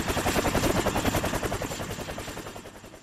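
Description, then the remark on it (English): A helicopter on a search thunders overhead in the wind, its rotor blades chopping in a fast, steady pulse that stays loud throughout and eases only slightly toward the end. No voices are heard. “They could hear the helicopter and they couldn't see it”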